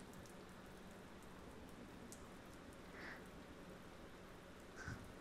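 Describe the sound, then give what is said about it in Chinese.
Soft, steady rain hisses continuously in the background, with a couple of faint, brief drip-like taps standing out near the end. No one speaks. “因为你来了这里，下雨的时间就不用一个人过了，这可能是上天对我的恩惠呢。”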